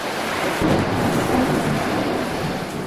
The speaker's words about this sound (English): there's a storm raging outside. Let's shut that door.